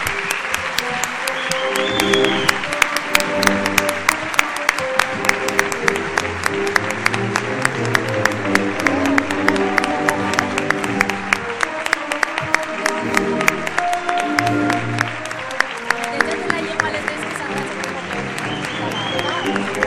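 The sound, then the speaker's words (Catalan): Loud, sustained applause from an audience welcoming the Angelet 2024, a symbol of the local festivities, with dense rapid clapping that carries on steadily for the whole stretch, with a murmur of voices and a faint tonal background underneath. “Un fort aplaudiment.”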